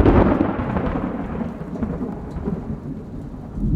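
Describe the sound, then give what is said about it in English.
Heavy rain pounds down in a dense, steady roar, with deep rumbling underneath that suggests thunder. It fills the whole stretch without letting up, and no one speaks. “Then, like a bad omen, the pounding rain returned with a vengeance.”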